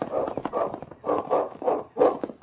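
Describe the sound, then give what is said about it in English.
A dog named King barks around the bend of a trail in a quick run of several rough, repeated barks, fairly steady in rhythm, with no one talking over it. “Look, he's barking around the bend.”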